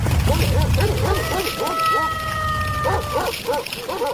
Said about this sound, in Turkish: Kapı birden açılmış. Çok sayıda iri köpek dışarıya fırlamış ve kurda saldırmış.